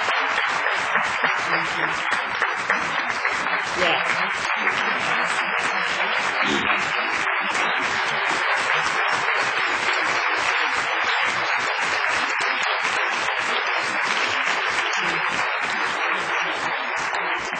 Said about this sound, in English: Why don't we let them stand and receive a special round of applause for their program.